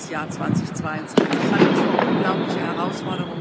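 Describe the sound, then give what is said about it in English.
New Year's Eve fireworks set off by revelers in Berlin crackle and pop continuously in the background, with a sharp louder bang near the middle, while a woman speaks over the noise, recording a video address without a microphone. “She didn't mic herself, and she filmed the address as New Year's Eve revelers in Berlin were setting off fireworks behind her.”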